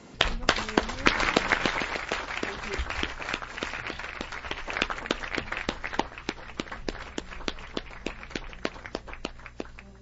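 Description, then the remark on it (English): A steady burst of applause, many hands clapping in a dense, crackling patter that holds at a fairly even loudness for about ten seconds with no pause. “thanks you there for that applause.”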